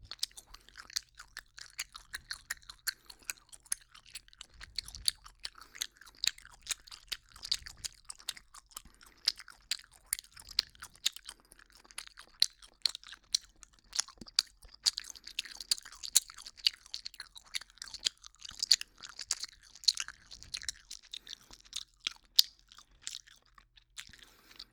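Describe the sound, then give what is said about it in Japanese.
Wet chewing of peach-flavoured gum, with sticky smacking and squelching repeated in a steady rhythm for the whole stretch, quiet but very intimate and with no talking. “以上、ガムを噛む音でした。”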